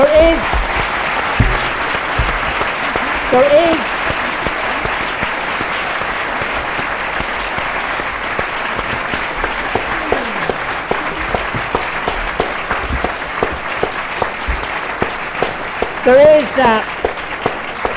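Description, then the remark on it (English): Sustained audience applause thanking four speakers, the International Committee of the Red Cross and Ruth Wedgwood at a public event, a dense, steady wash of many hands clapping, with a few brief voices or cheers rising over it near the start and end. “So to all four, and the International Committee of the Red Cross, and a sort of little perk on the applause for Ruth Wedgwood, thank you very much for coming along.”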